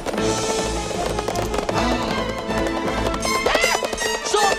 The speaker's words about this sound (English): On black horses, masked riders with glowing eyes chase the Sultan.